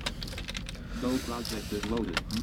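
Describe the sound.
Quick, irregular clicks of computer keys and a mouse, close by and fairly soft, with a low murmuring voice underneath partway through.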